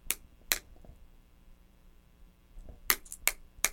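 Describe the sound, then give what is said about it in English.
Keys (a car key, a house key, a shed key and a treasure box key) bang against plates in sharp, clattering knocks, two early hits, a pause, then three more in quick succession, fairly loud with no talking. “You just want to hear them bang, don't you? And bang the plates.”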